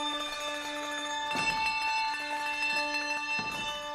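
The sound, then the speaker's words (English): Ringing handbells sustain a chord of bright, steady tones, with fresh strikes adding clusters of notes at intervals, as a band plays a song live with the audience, who play bells on an app on their phones. No voices, just the layered bell tones. “playing a song on handbells with the audience, who are all playing bells on a special app they downloaded to the phones for the live show for this song.”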